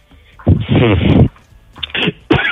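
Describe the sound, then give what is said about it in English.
A loud sneeze with a drawn-out voiced burst, followed by two shorter, sharp bursts a moment later. “Bless you. I will not die.”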